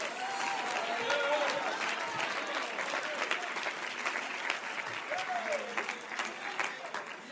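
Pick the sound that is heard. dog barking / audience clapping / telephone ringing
audience clapping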